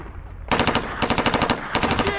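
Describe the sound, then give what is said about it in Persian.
Heavy machine gun fire from Iraqi forces shooting at troops erupts after a brief quiet moment, a loud, rapid stream of sharp cracking shots in steady rhythmic bursts, with no voices. “آتیش خیلی سنگین بود و عراقی ها با کالیبر بچه ها رو می زدن.”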